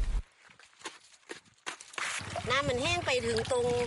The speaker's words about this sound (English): Panning for flecks of gold on the banks of the Mekong River in northeastern Thailand